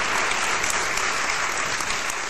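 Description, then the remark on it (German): An audience at an Online-Marketing-Day event applauding steadily, a dense, even wash of many hands clapping, sustained at a constant loudness with no voices over it. “und ich hoffe, das Publikum wird dementsprechend applaudieren.”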